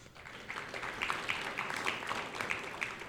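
A crowd at a Chamber of Commerce Awards Banquet applauds the chamber treasurer as he is introduced: steady, dense overlapping hand claps at moderate loudness with a few sharper individual claps popping out, sustained without pause for the whole few seconds.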